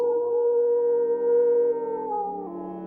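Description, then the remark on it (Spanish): A long, drawn-out werewolf howl, heard as a silver crucifix is driven into the beast's heart in the Montija cinema in Tetuán, holds a steady, slightly wavering pitch for a few seconds before tapering off, loud and alone with no talking. “Un aullido desgarrador resonó en el cine Montija, seguido por un silencio sepulcral.”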